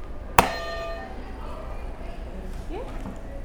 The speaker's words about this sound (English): Go ahead and hit another buzzer.